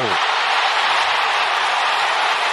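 A large batch of Cardinals fans cheers at Wrigley Field on a Saturday as the baseball game is tied 4-4, a loud, steady roar of many voices that holds at full strength for the whole few seconds without letting up.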